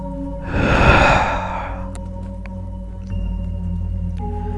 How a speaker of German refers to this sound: Wir atmen ein. Und dann atmen wir aus.